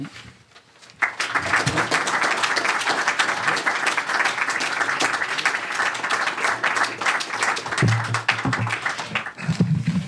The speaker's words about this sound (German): Ja, das war Ihr Beifall